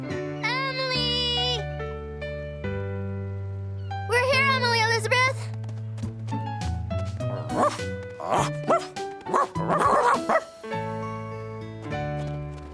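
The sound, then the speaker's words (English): A voice imitates the bark of Clifford the dog with a few loud 'woof' sounds in quick bursts over a bright, steady musical background. “Woof, woof!”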